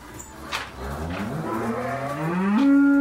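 A single drawn-out cow moo, fairly loud, rising in pitch and swelling toward the end over faint outdoor background noise.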